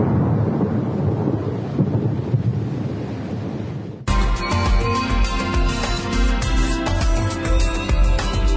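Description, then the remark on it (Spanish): A loud, rolling electrical thunderstorm rumble with dense rushing noise fills the first few seconds, then cuts abruptly into music. “Tormenta eléctrica.”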